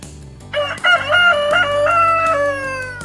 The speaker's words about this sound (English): Cock-a-doodle-doo. Cock-a-doodle-doo. I am a rooster.